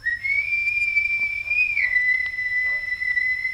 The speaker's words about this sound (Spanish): oí a lo lejos el famoso silbido.